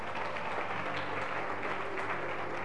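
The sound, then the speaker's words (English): A crowd claps steadily, a dense, continuous wash of many hands applauding at once. It fills the whole moment at a fairly loud, even level, with no voices standing out. “Clap your hands for our.”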